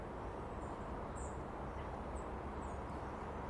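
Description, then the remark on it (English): A few faint, thin, high-pitched long-tailed tit calls, three or so short notes spaced apart, float above a steady broad outdoor rumble that dominates the scene, on a fresh, damp morning. “Yeah, it's tits, definitely is.”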